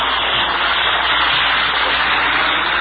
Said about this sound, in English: That's one of the Marine fighter planes just passed overhead. He's on his way back to his base to get a new supply of rockets. I notice he has rocket brackets on, but they are empty.